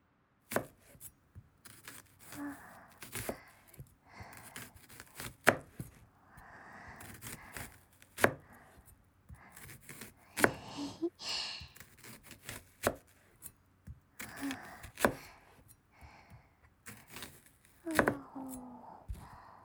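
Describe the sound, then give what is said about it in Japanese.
Crisp knife chopping through an onion, a steady run of sharp, bright cuts with short pauses between bursts, with a faint wet crunch under each stroke and no one speaking. “うちではね、いつもは玉ねぎを先にレンチンするんだけどね。今日はシャキシャキの音重視です。”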